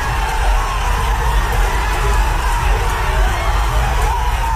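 A packed crowd of Irish and sports fans in O'Shea's pub in Manchester roars and cheers continuously at a last-minute goal for Ireland, a dense wall of shouting and whooping voices, sustained loudly throughout without a break.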